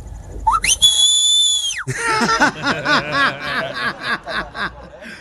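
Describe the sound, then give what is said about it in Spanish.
A loud, sharp human whistle call, a father's whistle summoning his children home in Juárez, Chihuahua, of the kind used by many Latino parents, sweeps upward and then holds a long, steady piercing note before cutting off, followed at once by several people laughing and chuckling. “Sí, ese es un silbido como internacional,”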